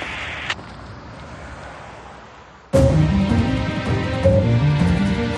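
A faint click sounds against quiet outdoor ambience, then a sudden loud clank as the owner of a garage block in Kilburn, London NW6, opens its heavy main gate, followed by a sustained rolling, grinding metallic scrape. No one speaks.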